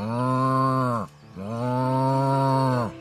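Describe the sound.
A voice imitates a cow, giving two long, loud, steady moos in quick succession, each sliding down in pitch at the end, with no other talking. Men are mooing like a cow while walking slowly out into a pasture at first light.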